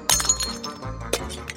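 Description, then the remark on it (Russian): Ceramic jugs are smashed into small shards one after another: a jug shatters with a loud crash near the start, followed by shards clinking and scattering, then a second sharp break about a second later as pieces tumble and settle. “Тогда мальчик стал брать кувшины один за другим и разбивать их на мелкие осколки.”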